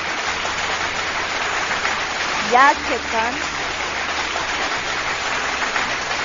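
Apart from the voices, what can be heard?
big round of applause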